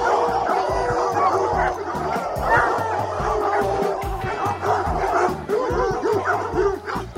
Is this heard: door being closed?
no